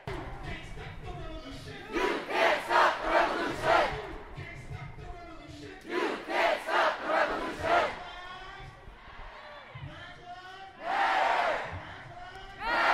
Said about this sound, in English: The demonstrators chanted demanding justice and change as they followed the route past the state capitol building. Justice! Now!